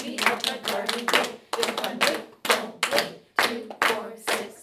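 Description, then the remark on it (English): A group claps the rhythm of a chanted rhyme ("2, 4, 6, 8, meet me at the garden gate"), a clap on each syllable, in a quick, uneven rhythm while voices chant along in time. The claps come in short bursts separated by brief pauses. “Clap the rhythm. Rhythm, we're gonna clap right here, every syllable.”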